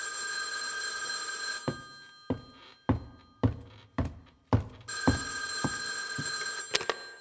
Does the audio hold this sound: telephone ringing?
yes